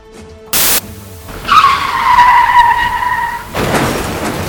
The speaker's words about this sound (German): Verdammt, der Wagen ist gerade mit voller Karacho über die Leitplanke gefahren.